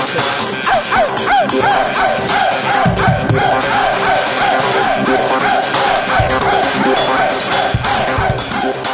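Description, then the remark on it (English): Hillary Clinton imitates a barking dog, letting out a rapid string of loud, yappy barks and yips that continue steadily for several seconds, prominent. “Well, what would you rather have, to hear Hillary's coughing conniption fit, or would you rather hear her barking like a dog?”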